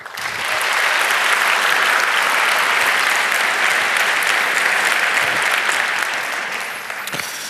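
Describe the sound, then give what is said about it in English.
Sustained audience applause welcoming a security researcher from Amnesty International, a dense steady wash of many hands clapping that swells in quickly, holds loud for several seconds, then tapers off toward the end. “But welcome him with a big round of applause,”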